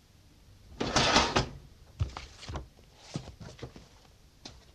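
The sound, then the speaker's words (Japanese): The second drawer of a cabinet slides open with a broad scraping rush, followed by a few sharp knocks and rustles as things inside are shuffled through to find a branch office report, with no talking. “あ、そこのキャビネットの2番目の引き出しに入っていますよ。”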